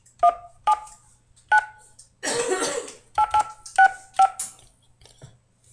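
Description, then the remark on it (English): A series of about eight short telephone keypad tones beeps at an uneven pace as a conference ID is entered for Bell Conferencing Solutions, pausing midway for a rough, noisy burst like a cough, then a quick cluster of tones follows. “Please enter your conference ID followed by pound.”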